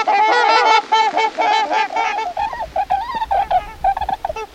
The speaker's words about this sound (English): Both swan species return in family groups each fall from nesting sites in Canada and Alaska. The swans winter by the thousands on the river deltas about an hour north of Seattle, where you can listen to their splendid voices.